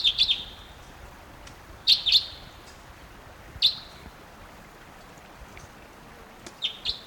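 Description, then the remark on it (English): Sharp, high-pitched kip notes from a type 2 crossbill flying over, sounding like one bird, at 9:08 a.m. The notes come in short clusters of two or three at irregular intervals over a faint hiss, with no talking. “Here comes the type 2.”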